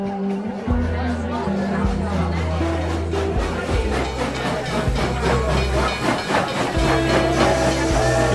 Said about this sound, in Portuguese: O trem finalmente parou na estação de Santa Margareth, próximo ao porto dos navios.